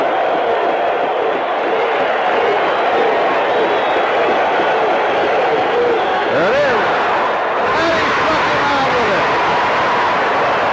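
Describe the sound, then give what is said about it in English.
A huge baseball crowd at Yankee Stadium roars and cheers nonstop as Dave LaRoche strikes out Gorman Thomas in 1981, a loud, dense wall of voices with shouts and whoops rising out of it, surging even louder toward the end. “The thing I noticed, and I'm guessing you noticed during that clip, is that the crowd at Yankee Stadium is extremely loud. They're going bananas.”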